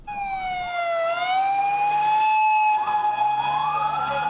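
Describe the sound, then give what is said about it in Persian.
An ambulance siren wails steadily, its strong harmonic tone dipping and rising slowly in pitch, loud throughout, over a low rumble of engine and traffic, as dozens of ambulances head to the site of a powerful explosion in a car park of a crowded park in Lahore. “به دنبال انفجار نیرومند در لاهور ده ها امبولانس به محل رویداد حرکت کردند.”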